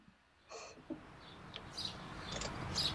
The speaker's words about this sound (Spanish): Porque ahí suenan esos pajaritos que nos van trayendo el secreto